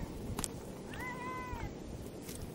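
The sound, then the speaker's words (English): In Italy, a hungry cat fighting over food lets out a single drawn-out, wavering yowl lasting under a second, set against steady rushing, howling wind, with a couple of short clatters before it. “They eat everything if they're really hungry. They're even fighting for it, as you can hear.”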